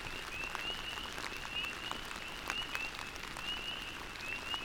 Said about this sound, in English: I feel so incredibly grateful to hear my first spring peepers of the year, their bird-like chirps adding some sparkle to the soothing sound of the rain.